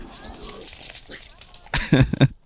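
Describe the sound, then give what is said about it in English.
Two or three loud, sharp dog barks ring out in quick succession near the end, following a stretch of low, rustling background noise, as dogs bark at a person walking outside in the cold. “Ordinarily, dogs love me. It's okay. They're just trying to protect their loved ones, just like me.”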